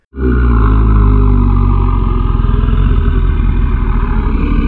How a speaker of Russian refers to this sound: Раздался жуткий рев.